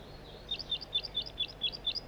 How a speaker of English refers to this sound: Rather loudly given, but I'm right underneath the tree that the bird is in.